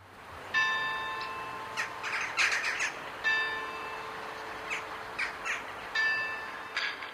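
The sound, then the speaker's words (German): Harsh, squawking calls of crows ring out in short repeated bursts over several seconds above the cemetery of the Protestant church in Zündert under a grey sky, alongside a steady droning tone that comes and goes in the background. No one speaks. “Krähen hocken über diesem Ort der Erinnerung und begrüßen jeden, der ihn betritt.”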